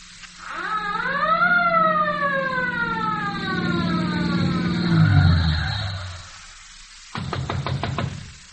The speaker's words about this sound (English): Sakes alive, what's that? It's a police siren. All I gotta do is get in a taxi and keep blowing this. And I got my own police car.